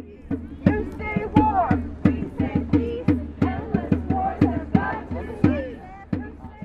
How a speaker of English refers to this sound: A crowd of 100 plus endured near freezing rain to protest a possible war with Iran.